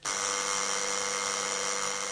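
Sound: doorbell ringing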